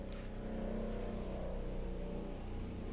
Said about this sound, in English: Well, that's loud and obnoxious. Sorry about that, people. Maybe that's one of the dual-fold planes flying over. Apparently.